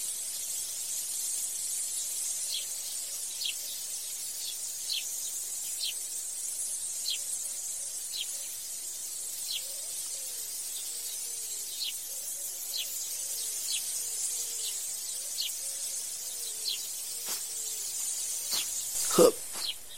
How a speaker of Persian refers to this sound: یه ذره آب به گلان بدم.